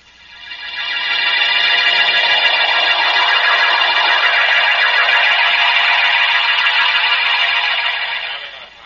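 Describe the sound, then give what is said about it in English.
A police car siren swells up, then holds a loud, steady, high wail for several seconds before trailing off at the end. No one speaks. “And turn on that siren.”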